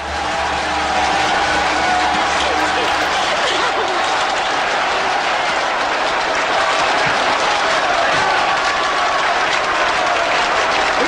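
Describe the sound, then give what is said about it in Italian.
Sustained, dense applause from a sizable crowd, played as a sound effect, loud, a steady wash of clapping that holds its intensity for about eleven seconds with no voices on top. “Ah, prima di andare con la canzone, gli applausi e ho preparato.”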